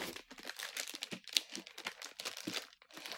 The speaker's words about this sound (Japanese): でもそのなんか新しくなったタイプから開けると綺麗に開けられないから、カッターで綺麗に切っていきます。よいしょ。うん、綺麗に包装されてますね。